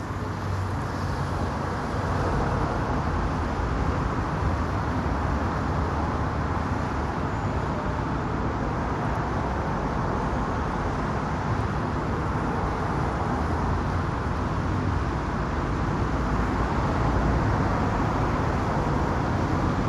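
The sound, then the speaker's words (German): A dense, steady roar of traffic circling Ernst-Reuter-Platz in Berlin-Charlottenburg, an open square with a 100-metre-diameter island driven around by cars, with many cars rumbling past continuously and no pauses. The wash of engine and tire noise stays loud and even throughout, with no voices. “Das ist die Verbindung Berlin-Charlottenburg zum Stadtschlüssel hin, ein offener Platz mit 100 Meter Durchmesser Insel, die von Autos befahren wird.”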